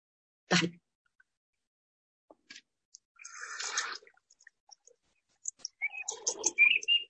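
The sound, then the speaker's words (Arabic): Birds chirp and twitter in short, bright bursts over running water below, with a sharp splash-like knock near the start and a busier flurry of calls toward the end; no one speaks. “صوت البشر عالي، صوت العصافير مع الموية تحت كثير، ما في أي إزعاج أبدا.”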